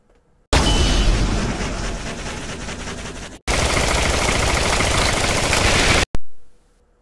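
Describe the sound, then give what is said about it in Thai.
Loud, dense bursts of rapid gunfire fill the space in two long sustained volleys separated by a sharp cut, ending with a final burst that fades out quickly, along with laser-gun sounds like those in films. “ทันใดนั้นเสียงก็ดังขึ้นดังขึ้นมีเสียงคล้ายๆกับปืนดังสนั่นแก้วหูฉันและมีเสียงปืนเลเซอร์คล้ายๆในหนัง”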